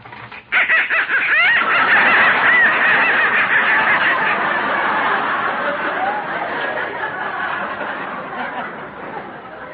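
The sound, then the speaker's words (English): A loud, crowded racket of live ducks in a basement quacking over one another, a dense, continuous clamor that starts abruptly and stays noisy throughout. “Now, look, that noise came from some live ducks I got in the basement.”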